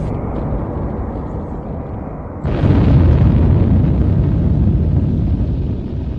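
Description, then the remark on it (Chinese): A massive atomic bomb explosion, driven by a rapid nuclear fission chain reaction, roars as a deep, continuous rumble that suddenly swells louder partway through and keeps thundering without letup, with no voices present. “那么如果说有足够的这个原料放在一起的话，那么它就会发生这种快速的反应，那多的话就成了一个原子弹爆炸。”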